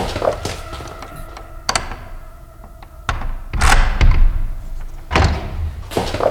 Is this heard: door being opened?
yes